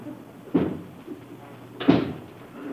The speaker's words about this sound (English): Was that the front door I just heard?